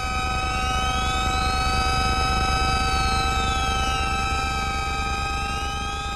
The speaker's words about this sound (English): created this very eerie piece where you hear these overlapping series of sliding tones. It does sound like something that really could be emanating from outer space.